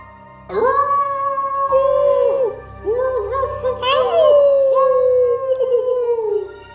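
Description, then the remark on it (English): A pack of wolves howls together from nearby mountains in long, overlapping wavering tones that rise and slowly fall, a sustained chorus of pitched cries lasting several seconds with brief dips between howls. “These are a pack of wolves.”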